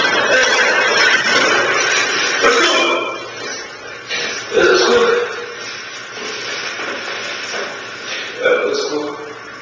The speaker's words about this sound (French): Pendant quelques secondes, il a vraiment cru que le camion lui fonçait dessus. Et il a crié au secours trois fois.